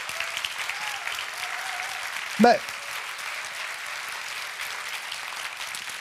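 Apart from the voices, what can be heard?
audience applause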